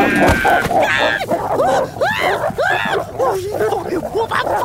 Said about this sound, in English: The fuck is this? Why is there a wolf in my mailbox?